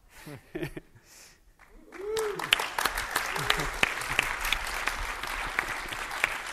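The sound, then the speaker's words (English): A brief bit of voice gives way to an audience applauding a presenter's announcement of an upcoming product launch, a dense, steady wash of many hands clapping that holds for several seconds, with a couple of short vocal whoops early on. “So I want to see some applause if you like it.”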